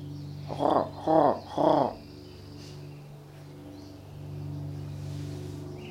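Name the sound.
crow calling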